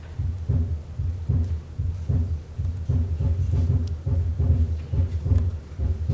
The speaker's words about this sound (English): So there's our normal heart sound.